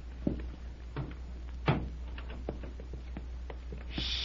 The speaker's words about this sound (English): On tiptoes. Hey, you close the door behind us